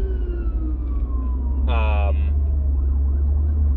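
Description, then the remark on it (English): An ambulance siren passes over steady low traffic rumble, its tone sliding downward, then a short blaring horn-like burst midway, followed by a fainter wavering wail as it moves off. “Yep, and here comes the ambulance trying to get by.”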